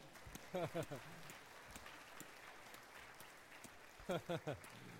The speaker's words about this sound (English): Let's clap.